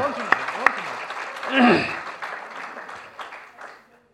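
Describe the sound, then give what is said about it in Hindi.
A crowd applauds steadily for about four seconds, a dense patter of clapping with a couple of sharper claps early on and a brief voice or cheer rising midway before the applause fades out. “बहुत बहुत धन्यवाद ताली बजाओ।”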